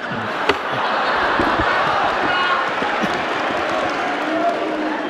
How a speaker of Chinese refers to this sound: 谢谢朋友们的鼓励。哎，啊，通过您的掌声啊，听得出来。